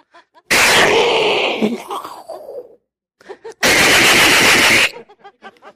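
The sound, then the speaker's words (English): A voice imitates gunfire: two long, loud bursts of noisy, rattling machine-gun sounds, the first trailing into groaning tones, with softer sputtering pops in between and after. “Boys are practicing gun sounds.”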